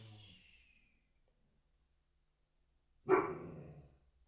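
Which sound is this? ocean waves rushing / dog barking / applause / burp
dog barking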